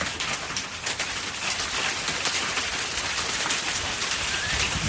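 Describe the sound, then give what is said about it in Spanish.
Large hailstones falling steadily in Alcoy, Valencian Community, in a dense, continuous clatter, with sharper individual impacts standing out from the roar; loud throughout, with no voices. “Son las rachas de viento, los rayos y también un granizo de considerables dimensiones como el que ha caído ya en Alcoy hace unas horas. ¿Podemos hablar de este granizo?”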